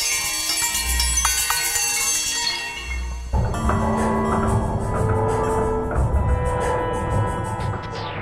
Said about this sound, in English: The sounds of the neighborhood, like the reggaeton music of the West Indies auto body shops, he kind of takes them and then filters it through some device that makes it sound like bells.